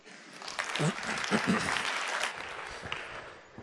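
An audience claps a speaker forward, a steady dense patter of many hands at moderate loudness for a few seconds that thins slightly toward the end.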